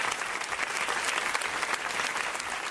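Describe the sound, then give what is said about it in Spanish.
Sustained applause from about 200 neighbours closing a protest gathering in Vicálvaro, in front of a shop, over the killing of its shopkeeper: a dense steady wash of clapping at constant loudness with no pauses and no voices standing out. “Este cerrado aplauso ha cerrado esta tarde la concentración en protesta por el asesinato y en solidaridad con la familia del fallecido, que han realizado en Vicálvaro unos 2 centenares de vecinos ante la puerta de la tienda donde han colocado flores”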